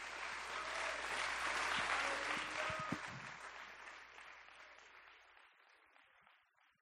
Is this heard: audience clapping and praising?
yes